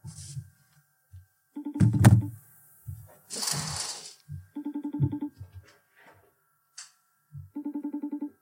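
A phone ringing tone sounds three times in warbling bursts, with a few thumps and a short rustling burst between rings; a call back to friends goes unanswered.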